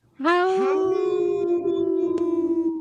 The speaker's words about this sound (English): Howl! Oh, caught me.